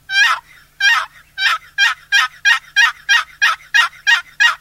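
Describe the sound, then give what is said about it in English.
A turkey box call produces a run of about a dozen raspy, high-and-low turkey yelps, loud, the notes coming faster and more evenly as the series goes on, with no talking. “it makes realistic turkey sounds. A cluck, you just pull it, and the yelp.”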